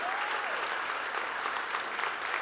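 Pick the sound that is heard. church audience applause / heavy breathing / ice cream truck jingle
church audience applause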